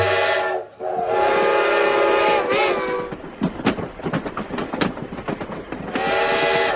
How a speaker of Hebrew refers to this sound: לפני רגע עמדה פה רכבת שלמה, ופתאום הרכבת כולה נעלמה.